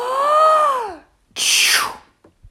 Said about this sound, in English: But at that very moment, the elephant sneezed.